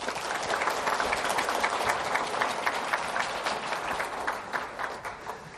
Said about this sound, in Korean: 생각하면 생각할수록 우리는 참 형편없고 또 허물투성이인데 그럼에도 불구하고 우리를 내치지 않고 올 1년 동안도 우리를 인도해 주신 삼위일체 되신 하나님께 먼저 우리 감사와 찬송의 박수를 올려드릴까요?